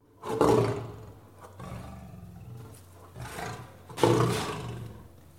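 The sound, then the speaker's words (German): Deep, powerful lion roars, several overlapping bursts with two loudest peaks, rumbling, with no talking. “Die Löwen brüllten.”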